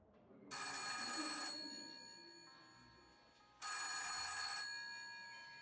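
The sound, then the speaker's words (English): A telephone rings twice on an outgoing call to Lamplight Investigative Services, two bright, steady bursts about a second long separated by a pause, each trailing off into a faint ringing tail. No one speaks. “The phone picks up on the other end of the line and you hear, hello, Lamplight Investigative Services.”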